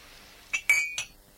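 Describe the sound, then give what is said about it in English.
Three quick ceramic clinks as mugs are cleared away and knock together, bright and ringing, with a sustained tone after the second; no one speaks. “Have you finished with the mugs?”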